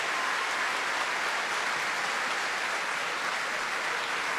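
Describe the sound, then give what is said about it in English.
A large opera audience at the Royal Opera House applauds and cheers the cast after a performance of Verdi's Macbeth, a dense, continuous wash of clapping that holds at the same level throughout, with no one speaking over it. “And with the enthusiastic audience here still cheering tonight's cast, it's time for us to leave the Royal Opera House.”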